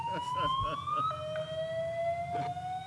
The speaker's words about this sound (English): And I think we have a fire drill. That's interesting.